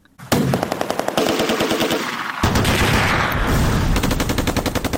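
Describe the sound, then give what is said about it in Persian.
Rapid bursts of automatic gunfire crackle continuously, dense and loud, with overlapping volleys echoing as if across open streets; no voices are heard. Mujahideen groups entering Kabul, Afghanistan, on 8 Saur 1371; the shooting is partly fighting between mujahideen groups and partly celebratory fire for their victory. “بخشی از تیراندازی ها از جنگ میان گروه های مختلف مجاهدین حکایت می کرد و بخش دیگر هم از شادیانه به مناسبت پیروزی.”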